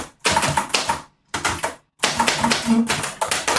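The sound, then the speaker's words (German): Rapid clacking of typewriter keys at a desk, typing a short greeting in three quick bursts separated by brief pauses, crisp and fairly loud with no voices. “ich habe hier eine Schreibmaschine an meinem Schreibtisch. Soll ich mal, schreib mal Hallo Glückler.”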